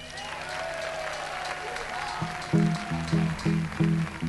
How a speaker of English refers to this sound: I'd also like for a round of applause for our fabled equipment crew who you just saw in action.